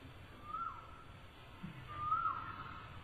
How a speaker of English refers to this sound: But the boys, the cuckoos were singing in the Vrindavan forest. That's the real one.